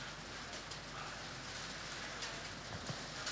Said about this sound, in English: hail landing on me. I kid you not, there's hail landing on me.